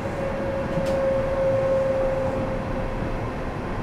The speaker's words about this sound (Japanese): 到着は5番線で両側の扉が開きます。なお、左側の扉が先に開きます。ご注意ください。